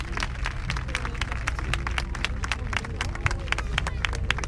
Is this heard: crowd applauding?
yes